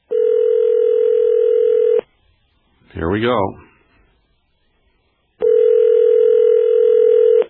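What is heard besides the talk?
telephone dialing and ringing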